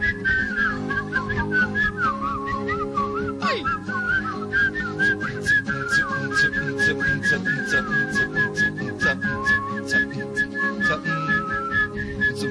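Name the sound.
people whistling a tune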